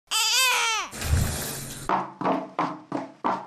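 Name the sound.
infant babbling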